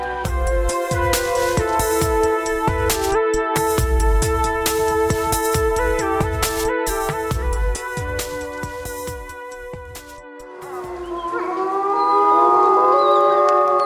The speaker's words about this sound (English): Behind us right there, a pack of gray wolves in Quebec, Canada.